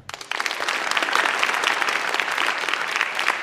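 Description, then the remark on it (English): A crowd of UNC students breaks into sustained applause to vote in agreement, many hands clapping at once in a dense, steady wash that swells quickly and holds for several seconds. “Everyone clap if you think I'm right.”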